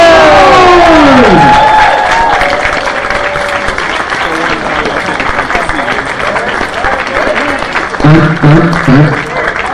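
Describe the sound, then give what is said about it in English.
A crowd breaks into sustained applause for the counselors on the board, mixed with loud cheers and whoops, dense clapping filling the whole stretch while excited voices shout over it. “Well, let us get a good round of applause for the rest of our counselors on the board!”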